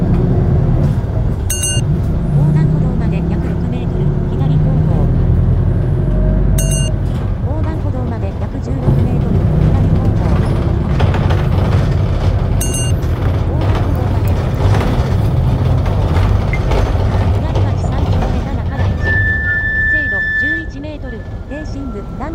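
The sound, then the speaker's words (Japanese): A bus engine rumbles heavily as the bus, stopped at a traffic signal in Toyama, Japan, pulls away and gets moving. A few sharp clicks and hisses sound over the steady low drone. “信号でバスが止まってます。動き出しました。”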